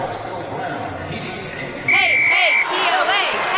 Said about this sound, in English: What's that about? Oh, the TOA cheer. TOA? You know, Tennessee Orthopedic Alliance. Why are they cheering for them?